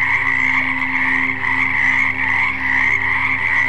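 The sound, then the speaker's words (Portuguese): A dense chorus of many frogs croaking continuously, a loud overlapping drone with a steady pulsing shimmer that never pauses, with no voices present. “Eram muitas rãs.”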